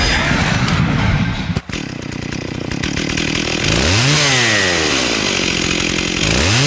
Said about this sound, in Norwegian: Gears of War motorsager. Det vil si den gunneren som heter for Lancer ja, som har en bajonett I stedet for en har en motorsag-bajonett.